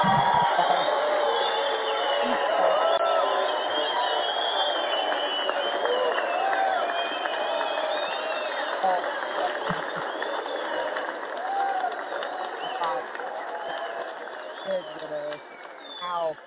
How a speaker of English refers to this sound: We're just, I mean, the applause will never stop.